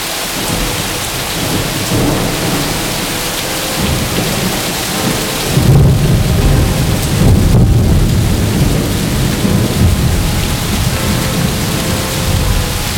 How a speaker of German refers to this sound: Der Regen prallte scharf auf die Felsen und die Treppe, schlug uns ins Gesicht und machte den Abstieg zu einer Rutschpartie.